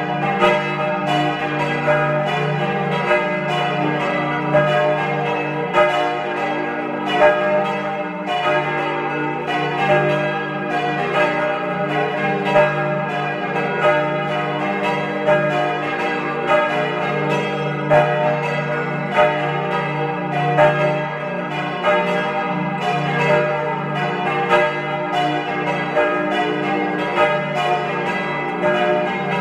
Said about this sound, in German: Es ist 12 Uhr. Sie hören die Glocken der Pfarrkirche zum heiligen Nikolaus in Kramsach in Tirol.